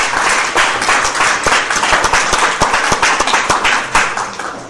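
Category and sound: crowd, audience applause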